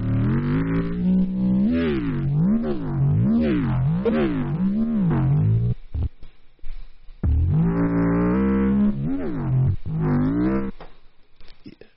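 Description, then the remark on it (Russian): A buzzy wavetable synthesizer tone sweeps up and down in rapid, wavering pitch bends, growling and revving much like a sports car engine, loud with a brief choppy pause midway. “Она, кстати, похожа на какой-то двигатель спорткара.”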